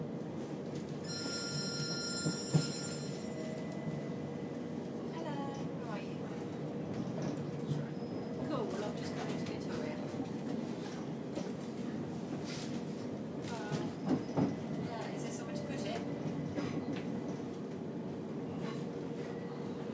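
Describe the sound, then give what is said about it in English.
Railway station ambience at London Victoria as a train arrives and terminates, with a steady low rumble of trains, high electronic beeping tones early on, occasional clanks and a background murmur of indistinct voices throughout. “Ladies and gentlemen, we are arriving into London Victoria where this service will terminate.”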